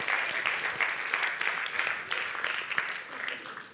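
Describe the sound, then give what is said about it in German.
Steady applause from an audience for the technical crew, a dense wash of many hands clapping at an even level for several seconds, with scattered sharper claps standing out and no voices heard. “Wirklich herzlichen Applaus für die Technik, oder?”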